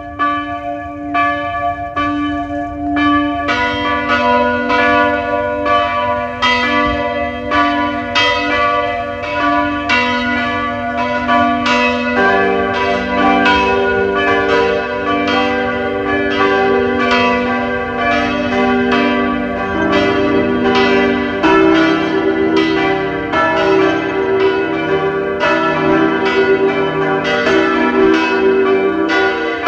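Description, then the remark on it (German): Several bells of the parish church of Hollenstein an der Ips, Lower Austria, peal together at noon in a steady, overlapping rhythm, loud and continuous throughout, their rich ringing tones layering into a full chime with no voices present. “Sie hören die Glocken der Pfarrkirche Hollenstein an der Ips, Niederösterreich.”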